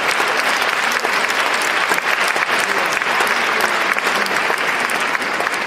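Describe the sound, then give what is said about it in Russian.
Steady, dense applause from a concert audience, many hands clapping at once in a continuous, even roar that holds at the same loudness for several seconds with no voices above it. “Я уже благодарю вас за аплодисменты,”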